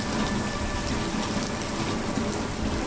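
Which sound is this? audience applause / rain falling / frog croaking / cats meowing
rain falling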